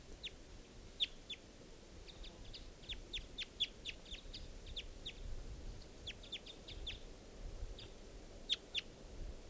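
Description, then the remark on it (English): A male wild bird perched in trees above a net calls with a rapid, irregular series of short, high chirps, some clustered in quick bursts, over a low outdoor rumble, at 10:11 a.m., with no talking. “And that's the male calling there.”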